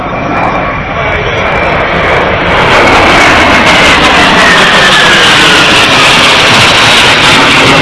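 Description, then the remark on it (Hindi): An Indian Air Force military jet roars overhead in the sky over Jodhpur during a display of air power, a loud, broad rushing thunder that swells after the first couple of seconds and holds steady, with a faint whine sliding through it. “हम जानेंगे उन गौरवपूर्ण क्षणों के बारे में जब भारतीय वायुसेना के बल और शौर्य की गड़गड़ाहट से जोधपुर का आसमान गूंज उठा।”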